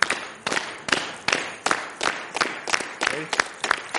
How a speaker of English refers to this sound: All right, you're going to start up clap.